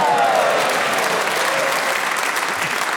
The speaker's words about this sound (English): The audience might want to applaud.